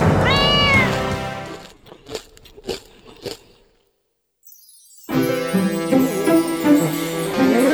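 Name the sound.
cat meowing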